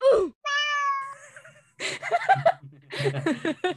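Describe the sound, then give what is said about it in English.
A person imitates a cat meowing: a short falling meow, then a longer steady one, followed by breathy laughter and chuckling, with no other background sound. “A, or a cat meowing or something.”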